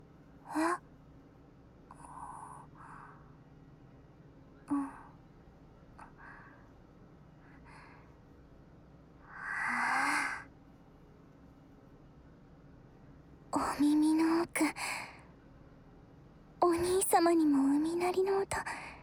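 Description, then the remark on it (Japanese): Soft breathy puffs and a long airy exhale, then two drawn-out voiced yawns with a sliding, moaning pitch, fairly loud against a quiet background, as yawning spreads contagiously from an older brother to another person. “お兄ちゃんのあくびの伝染力すごい。”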